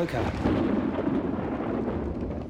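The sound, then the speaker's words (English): A deep, sustained rumble of thunder rolls steadily for a couple of seconds, fairly loud and heavy in the low end, with no clear breaks or separate claps. “It's forecast for thunderstorms.”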